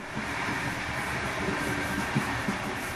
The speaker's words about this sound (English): The train was easing through the city, which knives had sliced open to serve up with all the juices running, red and green and purple.